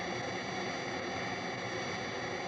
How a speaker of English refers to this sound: As well as enveloping, the synthesizer can also filter sound. Let's listen to how this jet noise can be altered when parts of it are filtered or removed.